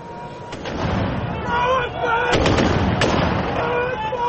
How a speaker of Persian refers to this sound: گزارش‌ها حاکی از ادامه حملات هوایی و انفجارها در پایتخت است. آنطور که شماری از ساکنان پایتخت لیبی گفته‌اند، حملات اخیر به مرکز شهر انفجارهای مهیبی را سبب شده که ظاهراً در روزهای اخیر سابقه نداشته است.